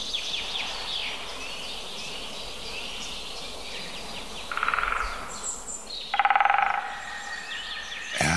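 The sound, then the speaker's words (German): Two short, rapid rolls of a great spotted woodpecker drumming on a dead branch used as a sounding board, a mechanical courtship display in a forest, each about half a second, the typical length for this species, standing out clearly against a steady backdrop of birdsong and insect hum. “Das ist kurz an einem toten Ast als Resonanzkörper benutzt. vorgetragenes mechanisches Balz. Gerufe der Spechte. Und das ist so die typische Länge für Buntspecht.”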